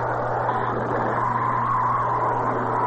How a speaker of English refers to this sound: There goes a driver who doesn't care much about money. He's wasting gasoline. Shell mileage experts will tell you that when you accelerate with a wide-open throttle, your car may be getting only 5 miles per gallon.